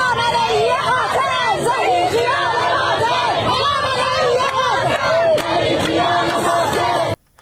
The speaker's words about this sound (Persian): بر اساس تصاویر منتشر شده در شبکه های اجتماعی معترضان در نیشابور، تربت حیدریه، کرمانشاه، تهران، قزوین، گیلان، مشهد، ایلام و چندین شهر دیگر با حضور در خیابان ها علیه مقام های جمهوری اسلامی شعار سر دادند.